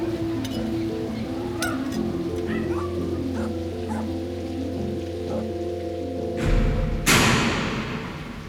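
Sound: several dogs barking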